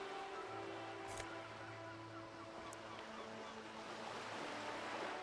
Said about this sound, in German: Du hörst das entfernte Geschrei von Seevögeln.